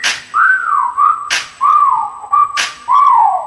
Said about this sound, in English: Okay, time to whistle at her. Hey, girl, you made my whistle blow.